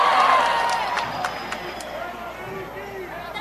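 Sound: audience applauding and cheering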